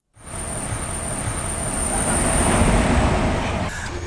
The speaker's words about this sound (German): Es ist ein kurzer Zug, eine Dampflok und zwei alte Waggons.